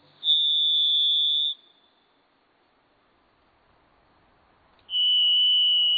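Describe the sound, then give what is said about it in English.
Varied thrush song: two long, eerie, steady whistled notes, each just over a second, the second a bit lower in pitch, separated by a few seconds of quiet with a soft hiss beneath. “If you hear the eerie song of the very thrush, you may be in a moist Pacific Northwest forest, in a quiet and private place.”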